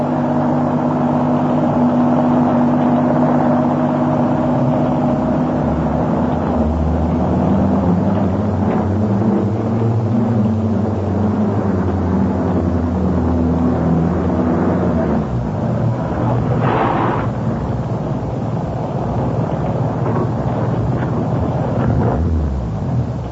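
car engine running

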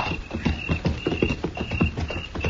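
horse hooves clip-clopping

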